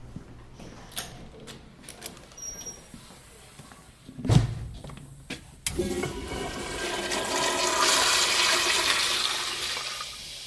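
A toilet marked out of order in a building's bathroom is flushed: a few clicks and a heavy thunk give way to a loud, broad rush of water that swells and keeps roaring steadily to the end, with no one talking.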